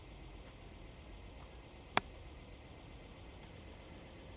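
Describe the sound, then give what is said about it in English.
A single sharp crack from a house soffit creaking as it expands while the sun heats it, sudden and brief against a quiet low background, with faint high chirps scattered around it. “I can hear the sun heating up the soffit around the house and expanding, creaking.”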